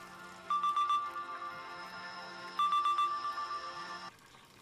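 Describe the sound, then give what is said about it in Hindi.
A mobile phone ringtone, an incoming call from Mohammed, plays two repeating bursts of bright electronic tones, each lasting about a second and a half with a short pause between, clear with no one speaking. “मोहम्मद का फोन है। अच्छा जवाब दो।”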